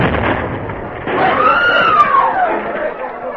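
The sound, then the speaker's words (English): A loud, terrific explosion in an apartment building, rendered as a sustained roaring, crackling rumble lasting several seconds, with a brief whistling tone rising and falling through the middle of the blast. “At that moment, in an apartment building on the opposite side of town, the stillness was suddenly shattered by a terrific explosion.”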